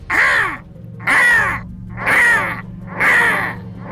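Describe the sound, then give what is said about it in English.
A crow caws four times in a steady rhythm, each harsh, raspy call loud, with short pauses between them over a faint low background hum. “As he bent down to grab it, the crow released a blood-curdling caw, caw, caw, caw, nearly as loud as the gunshots themselves.”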